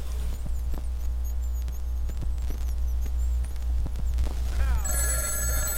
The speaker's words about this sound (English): Hun, the phones are ringing. Would you get it for me, please?